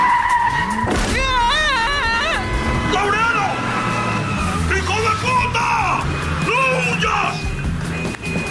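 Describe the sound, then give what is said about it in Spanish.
A car's tires screech in a long, wavering high squeal, followed by loud engine noise and a burst of shouting voices as the vehicle, a blue Patrol, seems to strike someone. “Antes de que le pase un coche por encima.”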